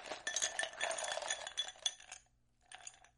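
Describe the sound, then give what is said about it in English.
Ice cubes clatter and clink into a highball glass, being poured in to make a Cuba Libre cocktail, in a busy, rattling cascade for about two seconds, then a short pause and a few more settling clinks, fairly quiet. “So to start, take a highball glass, pour in some ice.”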